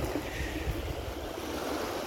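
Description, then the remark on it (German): Soft, steady lake waves washing against the shore of the Ammersee, a continuous low rushing with gentle surges and a faint breeze, moderately quiet, with no voices. “Vielleicht hört ihr im Hintergrund schon ein paar Wellen. Und das ist übrigens der Ammersee.”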